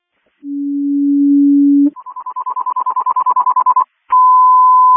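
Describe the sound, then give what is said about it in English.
Crystal Lake Fire Department general alarm tones, sounded for a filling crew: a steady low tone, then a rapid run of pulsing higher beeps, a short pause, and a long steady high tone. Loud and electronic, with no talking. “CCOM, can you give me a general alarm for a filling crew?”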